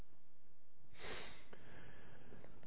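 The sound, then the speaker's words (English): A sudden harsh cough bursts out, followed by a fainter throaty catch, then quiet room tone. No one speaks. “Okay, thanks for your patience and putting up with my coughing and hacking.”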